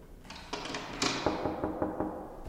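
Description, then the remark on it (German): A locked door in an art exhibition is tried, its handle rattling and the door thudding against its frame in a quick run of knocks and clunks, with no one speaking. “Die nächste Tür scheint sich öffnen zu lassen.”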